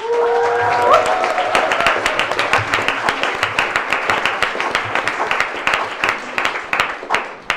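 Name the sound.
audience cheering and applauding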